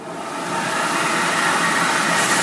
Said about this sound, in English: First thing I do, I don't allow any dirty kids in the museum. It's a full-body child vacuum.